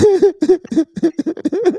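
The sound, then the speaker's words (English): A man coughs in a rapid run of about ten short, voiced bursts, fairly loud and rough, with a mid-pitched throaty tone running through them and no speech. “The list is so long, you made him cough.”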